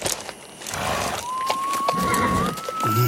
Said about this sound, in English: Hark, I hear horses.